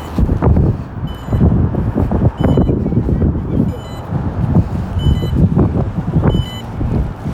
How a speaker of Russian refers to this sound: Над дверью звучит звуковой маяк. Если я не успела за время его звучания дойти до объекта, то можно вызвать объект еще раз.